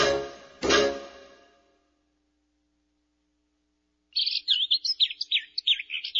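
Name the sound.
birds chirping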